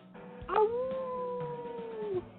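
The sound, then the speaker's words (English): A single dog howl outdoors rises sharply and then holds a long, steady, slightly wavering note for nearly two seconds before trailing off, clear with faint background noise. “I got the dogs outside now, so he's holding the show hostage here.”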